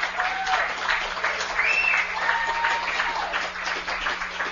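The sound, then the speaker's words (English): A large crowd applauds steadily, a dense wash of clapping with a few faint whistles and cheers rising above it, welcoming guest Molly McFadden, Blue Raider number 44, at a live MTSU Sports broadcast from Coach's Grill on a Monday night. “You folks give Molly a big welcome.”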